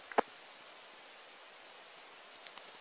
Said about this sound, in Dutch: En nu blijft de repeater hangen vanwege storing. Ja, klopt inderdaad.